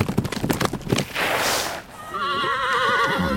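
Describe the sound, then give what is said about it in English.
A quick flurry of sharp, clattering taps from horses wearing tap shoes dancing on a ranch, a brief whoosh, then a loud, wavering horse whinny. “Wow, those horses like to dance.”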